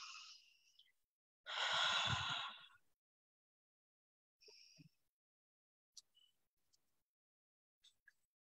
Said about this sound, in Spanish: Muy bien, pues respirando en este momento, doy gracias y les pido por favor un momento para hacer el cambio.